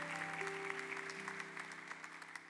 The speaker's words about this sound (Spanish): Denle el aplauso a Jesús, porque toda la gloria y la honra es de Cristo.